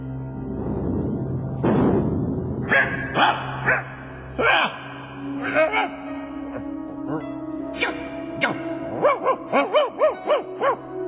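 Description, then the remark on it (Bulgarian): A dog barks and yelps repeatedly: scattered loud barks at first, then a quick run of short, high yips near the end, over a steady low background hum. “istinski pes.”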